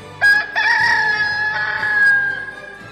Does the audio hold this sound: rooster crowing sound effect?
yes